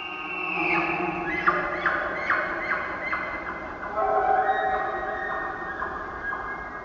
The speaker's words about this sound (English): An elk bugle. This distinct rutting call gets higher and ends with a series of grunts.